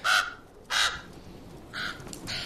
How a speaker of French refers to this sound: Don't listen to it. Crows are all liars.